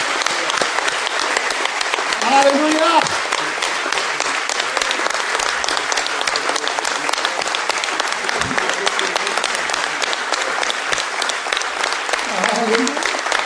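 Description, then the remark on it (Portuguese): A loud, sustained, thunderous round of applause saluting testimonies of God's glory fills the whole stretch, dense clapping with no break, while a few voices shout out exclamations over it. “Nós devíamos saudar todos estes testemunhos da glória de Deus operando em todos os lugares com uma estrondosa salva de palmas.”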